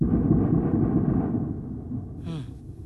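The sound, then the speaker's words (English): A loud, deep explosion from strikes on Kyiv, Ukraine, rumbles and rolls on for a couple of seconds, slowly fading, with a brief higher-pitched whine sweeping through near the end. “We heard hours of very, very loud explosions like these.”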